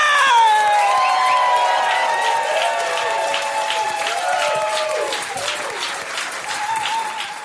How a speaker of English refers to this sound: All right, y'all ready for your headliner? She's from Boston. She was in L.A. Now she's here for you in New York for her album taping. Please put a big round of applause. Start clapping up, clap it up, clap it up to my girl, Sam J.